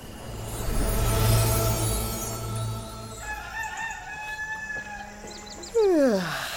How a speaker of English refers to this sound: Funny, isn't it? You don't get up with a cock crow instead of the alarm very often.